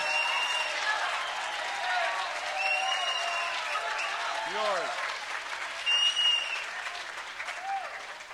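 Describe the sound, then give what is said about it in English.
A crowd cheers and applauds steadily throughout, a dense wash of clapping with whoops and shouts rising above it, staying loud for the whole stretch without letting up. “Yours is the roar of fairness of the American people, whose polls show that they too want a four-way presidential debate.”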